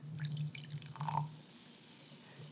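A small amount of butterscotch-flavored liquid is poured into a glass during a tasting, a brief trickling splash lasting about a second, with a steady low hum underneath and no talking.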